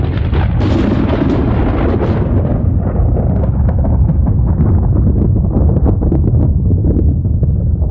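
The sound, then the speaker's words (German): A massive, sustained explosion of the primordial Big Bang, the primeval atom containing everything bursting apart, a deep rumbling blast with crackling bursts that fade slightly into a continuous low thunder. No one speaks. “In diesem Nichts von Zeit und Raum erleben wir, wie die Urmaterie explodiert, das Uratom, in dem alles enthalten ist, platzt auseinander.”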